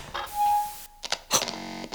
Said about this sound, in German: Das Neonlicht geht an.